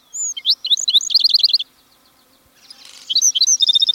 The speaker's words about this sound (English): All these measures would help assure that the black-throated sparrow's gentle song remains a prominent voice in the Southwest.